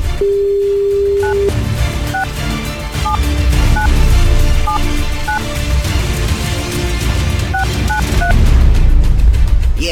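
A steady telephone line tone sounds briefly after a phone call is cut off, then a string of short keypad beeps pips out intermittently over a loud, rumbling background noise.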